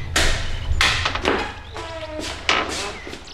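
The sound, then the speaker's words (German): Several heavy metallic knocks from a door knocker on an inconspicuous door of the Buddhist Centre in Rocky Beach, struck at an uneven pace with short ringing decays, and a faint tonal whine lingering between the blows. “Justus betätigte den Türklopfer.”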